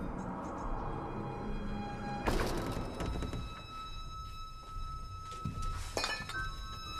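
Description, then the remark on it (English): A glass bottle is knocked over by a man entering a room, tipping with a sharp clink and thunk, followed by rattling and a second knock, against a low background hum. “Ben picks up the bottle he knocked over.”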